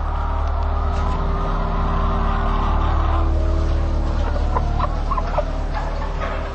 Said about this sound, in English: Many hens, fully alert and clearly alive, were neglected in trash cans without access to food, water, or veterinary care.